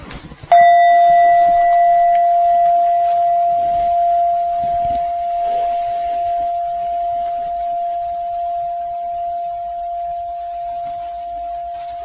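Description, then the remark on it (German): A meditation bell is struck once, producing a clear, pure tone that rings out steadily and slowly fades over many seconds, heard alone with no talking. “So, noch einmal auf die Glocke hören, ein bisschen austauschen darüber und dann so stehen lassen.”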